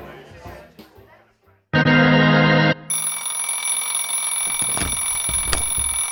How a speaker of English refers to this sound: Your alarm's going off. It's time to wake up.